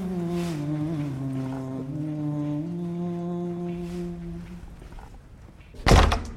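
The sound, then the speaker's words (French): A heavy door swings open with a long, low groaning creak that wavers in pitch for several seconds, then shuts with a single loud, deep thud. “Ah, c'est très impressionnant, encore une porte.”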